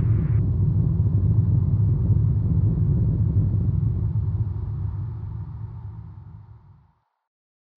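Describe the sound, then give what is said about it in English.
A spacecraft's fusion engine ignites: a deep, heavy rumble roars steadily with a broad low-pitched drone as the craft heads for Mars, then gradually tapers off and falls silent near the end. No one speaks. “Successful ignition. We're now en route for Mars.”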